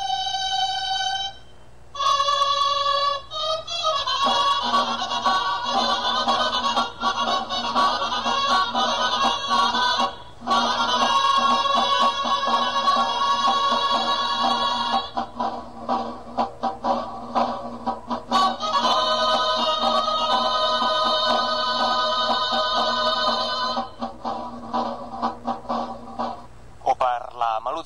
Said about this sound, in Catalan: Totes van ser acompanyades pel tradicional toc del castell.